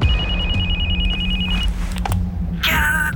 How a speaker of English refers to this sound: Suddenly, Pamela's cell phone breaks the silence.